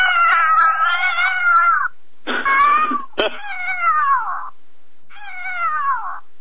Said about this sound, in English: Now, this is an adult cat call that's in distress, and it's also got cottontails, territorial beta male, whatever that is, coyote food fight, female adult howl, jackrabbit, a whole bunch of other ones.